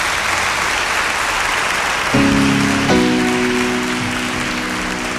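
A crowd applauds steadily throughout. About two seconds in, sustained organ-like chords begin beneath the clapping and hold to the end.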